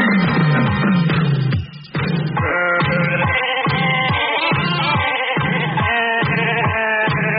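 Sheep bleat over and over on the second side of a novelty record, in a steady, bouncing rhythm, loud, the wavering baa sounds strung together like a song with no talking.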